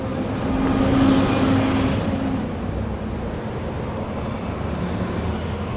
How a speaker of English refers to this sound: Sure is busy out here along the White Horse Pike with all the stores and traffic.